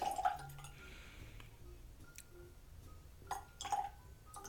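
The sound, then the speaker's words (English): Water is added to a glass of high-proof malt whiskey in a few small, quiet drips and light clinks, separated by brief pauses, with no talking. “Now, I've had this before, so I'm just going to go straight for the water.”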